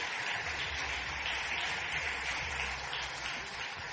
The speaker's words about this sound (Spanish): Solamente un aplauso al hermano. Dos hermanos.